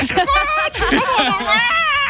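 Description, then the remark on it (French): A German baby cries loudly, starting strong and gradually fading in intensity, in a string of high, wavering wails with brief catches of breath between them and no other voices. “Par exemple, les bébés allemands commencent leurs pleurs fort et diminuent progressivement en intensité.”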